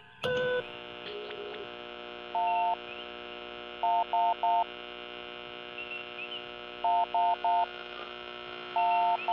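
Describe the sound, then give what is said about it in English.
A faint electronic SOS distress signal, boosted and played over a loudspeaker, coming from 5 parsecs starboard: clipped, even-pitched beeps in groups of three with a few longer tones, repeating over a steady electrical hum and static interference. “It's definitely an SOS, Captain.”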